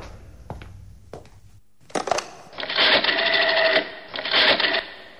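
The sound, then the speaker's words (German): A few sharp clicks, then a busy mechanical rattle and whir in two bursts as a telephone handset is lifted and the dial worked on a phone that does not work, with no one speaking. “Das Telefon ist gleich hier.”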